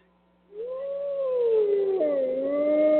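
A wolf howls in one long, sustained note that rises, wavers, then drops in pitch, clear, starting after a brief silence with no voices present.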